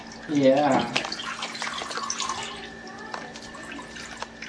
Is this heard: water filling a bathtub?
yes